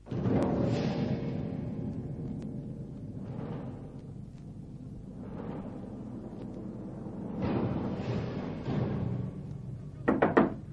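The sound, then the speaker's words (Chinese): Several quick, sharp knocks rap on a door near the end, following a stretch of dull, muffled thuds and rumbling noise. Someone knocks in the middle of the night, calling for their cousin to open the door. “表哥，表哥，快开门！”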